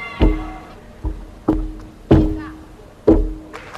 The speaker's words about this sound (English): What we're hearing there is the use of a thing called a contact microphone. So if you put one on a balance beam, a gymnast is walking along, you'll actually hear something that you would never hear naturally if you stood beside the beam.